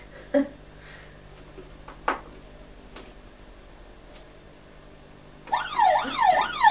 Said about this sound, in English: Just be quiet, and then you might hear the siren coming to you. And that's the police, okay?